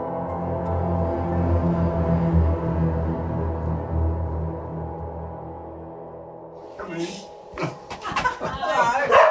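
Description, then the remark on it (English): A steady musical drone fades out, then a curious border collie named Flo breaks into a string of sharp, loud barks, several in quick succession, in a big double brick house. “Rowdy dog.”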